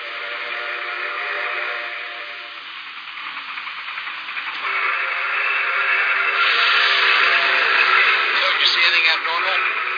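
A steam train rolls past trackside with a steady hiss and rumble that swells louder midway, carrying a faint whistle-like tone, with no talking over it; a wheel flat spot can be heard about four cars behind the tender.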